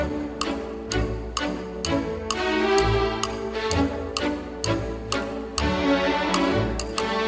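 Light, bouncy orchestral music with a steady woodblock-like tick-tock keeping time beneath sustained strings and melody, loud throughout, no voices.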